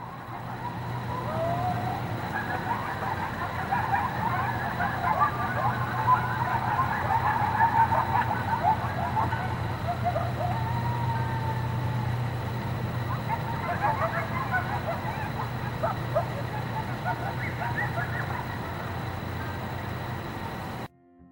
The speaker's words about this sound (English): Now, I managed to pull up a clip from YouTube that to me sounds very similar to Taylor's recording. The uploader claims the sound in the following clip is just that, a pack of coyotes.